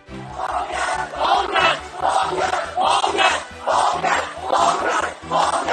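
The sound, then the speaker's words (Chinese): Hundreds of family members of arrested protesters, gathered outside Kwai Chung police station in Hong Kong, chant a slogan demanding the protesters' release. The chant is loud and insistent and in unison, repeating in a steady pulsing rhythm with short breaks between shouts and no single voice standing out. “几百名被捕者的家属到示威者被关押的葵涌警署外聚集，要求警方释放示威者，他们高喊是放人的口号。”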